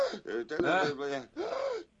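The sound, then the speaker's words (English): Loud, heavy breath intakes from a man heard over a satellite radio broadcast: about four strained, gasping pulls of air in quick succession, each with a raspy, partly voiced, moan-like edge. “You could hear every breath he took just about. Sounded like he's sucking in from a freaking jetliner or something.”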